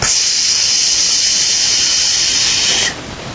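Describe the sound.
A voice imitates air hissing out of a big, balloon-like loaf of bread dough as it is poked, with a loud, steady, sharp hiss that holds for about three seconds, then thins out abruptly, with no talking.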